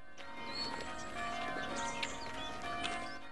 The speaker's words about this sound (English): To the sound of bells, the villagers of Weirwold make their way from their homes to the church.